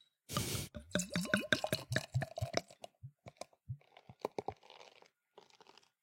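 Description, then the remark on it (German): A bottle of IPA beer (60 IBU) is opened: the cap pops with a short hiss, then the beer glugs out into a glass in rapid gurgles, followed by a few drips and a soft, steady fizz as the foam settles. No one speaks. “Ja, und das machen wir jetzt mal auf.”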